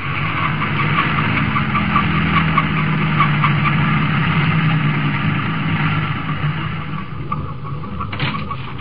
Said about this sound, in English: Our story opens on a highway at night. Standing in the glare of the headlights of an approaching truck,